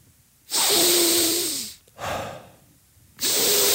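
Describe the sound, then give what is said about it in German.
Loud breaths drawn in through the nose by a person testing which nostril they breathe through, three long hissing sniffs in a row, the middle one softer and shorter, with no talking. “Oh, gefühlt bin ich jetzt auch eher durchs rechte als durchs linke gegangen.”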